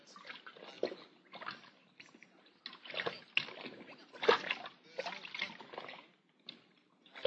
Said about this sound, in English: But we couldn't detect anything that would trigger the thing, so we'll put it in a water bucket here. Did you put wetting agent in the water? Yeah. It'll soak through the wrapping quicker and then throw anything else inside that much faster.